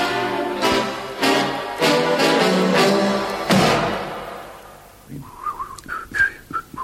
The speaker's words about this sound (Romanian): te rog, nu mai fluiera. Dă-mi voie să mă concentrez puțin.